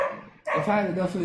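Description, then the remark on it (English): A dog barks in a loud, drawn-out burst of yelping vocalizations that begins abruptly after a brief quiet moment and continues to the end. “Keep barking.”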